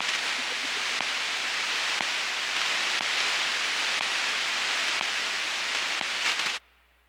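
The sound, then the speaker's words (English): Steady, loud hiss of radio static from data transmission between computers, lasting about six seconds with a few faint clicks or blips scattered through it, then cutting off abruptly into near silence. “To everyone and everything other than the computers receiving the instructions, data sounds like nothing. Maybe some static, just blips between computers.”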